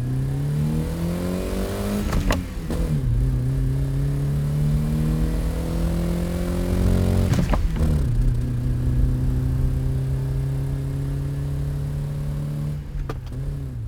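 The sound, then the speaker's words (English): A car engine hums steadily and climbs in pitch as it revs, with sharp gear-shift drops around two, seven and thirteen seconds. Loud, no voices. “It's not uncommon for an enthusiast to drive for hours at a time without listening to the radio, without listening to anything but the sound of the motor.”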